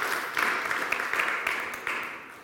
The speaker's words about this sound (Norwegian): Ja, gjør dem en klapp også.